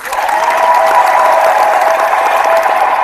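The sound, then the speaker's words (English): Steady audience applause, a dense wash of many hands clapping at an even, loud level for about three seconds, with faint crowd noise mixed in and no talking. “And applause to Serena, too.”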